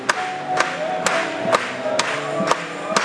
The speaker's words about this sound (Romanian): Hai să aplaudăm lui încă o dată!